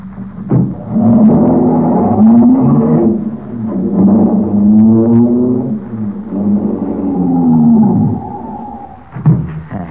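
A car engine drones and revs loudly, its pitch rising and falling as it drives steadily a short distance down a street, with no one speaking.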